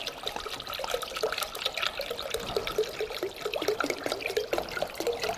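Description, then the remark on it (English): Water with a little blue water coloring is poured steadily into a container for several seconds, a continuous splashing trickle with bubbly gurgles and no talking over it. “Now this is just water with a little bit of blue water coloring.”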